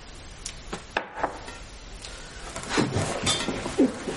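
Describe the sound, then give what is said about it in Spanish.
A bullet drops onto the floor as a woman loads an antique pistol, landing under a bed, giving several small, sharp clinks and taps spread unevenly, with a brighter cluster of ticks toward the end. No one speaks. “Se le cae una bala al suelo.”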